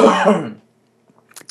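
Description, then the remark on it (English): A person turns away from the microphone and coughs: a loud, rough cough with a throaty, voiced edge lasting about half a second, followed after a pause by a few faint, muffled coughs. “Because even if I'll just turn around now and cough.”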